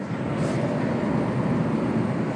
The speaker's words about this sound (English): Did you hear that metal grate on stuff?